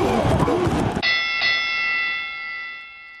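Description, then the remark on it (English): A bell is struck twice in quick succession, bright metallic tones ringing out and slowly fading, right after a brief burst of voice and noise at the start. “It may be time for the St. Louis Rams to, ring the bell.”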